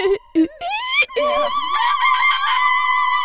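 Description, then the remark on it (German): A woman's high singing voice delivers a couple of short yelps, then swoops upward into a long, wavering held note, imitating a rooster's crow. Fairly loud, with no other talk. “Also es hört sich ein bisschen wie ein Hahn an, wenn die so gesungen hat.”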